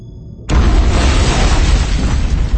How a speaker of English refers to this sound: The explosion was deafening, shattering, assaulting her body and mind and senses, and she felt herself thrown around like a snowflake in a storm.